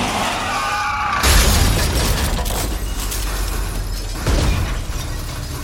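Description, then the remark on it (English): A car crash in southeast Missouri as a pickup truck sideswipes a car and runs it off the road: a sudden loud impact with shattering glass and scraping, followed by a rumbling, grinding roar and a second heavy jolt a few seconds later, with no talking. “Car sideswiped us. Ran us off the road.”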